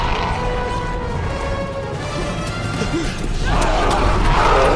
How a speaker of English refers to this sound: The Spinosaurus turns away and stomps off, only to charge back and smash through the fence.